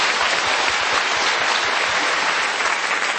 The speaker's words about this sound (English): Let's go a round of applause.